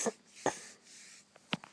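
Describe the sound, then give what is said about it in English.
A few quick sniffles through the nose, short airy bursts spaced irregularly with soft breathy hiss between them, no talking. “And I apologize for sniffles.”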